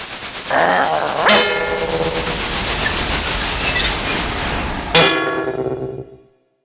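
A train rumbles close by while its wheels or brakes let out a loud, sustained metallic squeal for several seconds, then the screech cuts off and the noise fades away. No one speaks.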